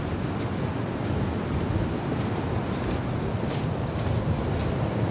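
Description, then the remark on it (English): Steady roar of white ocean surf breaking on a beach, with waves also running up against a headland, a dense continuous wash of water noise, with some wind buffeting the microphone and no voices. “And I mean, it's just so impressive, this white surf coming at us here.”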